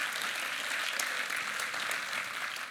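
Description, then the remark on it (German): Steady audience applause for a man who sits upstairs and runs things today, a dense wash of many hands clapping at once, sustained evenly for a few seconds with no voices rising above it. “Der Willi, gebt ihm mal einen Applaus, der sitzt oben und macht den Prob heute.”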